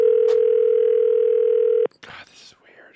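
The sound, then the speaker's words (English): A loud, steady telephone dial tone hums unbroken for nearly two seconds as someone starts calling a list of phone numbers, then cuts off abruptly, followed by a brief stretch of faint voice and noise. “And so I made a list of all those phone numbers, and I was like, I'm just going to start calling.”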